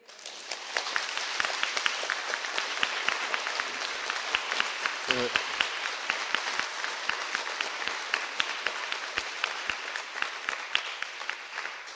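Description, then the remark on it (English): Sustained applause from a sizable crowd fills the whole stretch, a dense steady patter of many hands clapping at an even level, with a brief voice surfacing faintly midway. “I wish I had that applause in the Foreign Office when I said it.”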